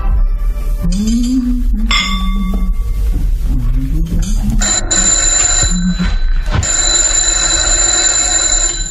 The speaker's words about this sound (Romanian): Soneria telefonului întrerupe ocupația ei delicată.